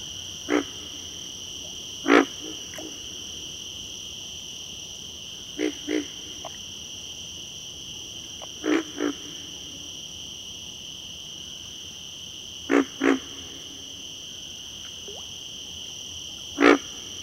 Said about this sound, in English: In cooler weather, pig frogs give a more subdued performance, grunting only once or twice each time.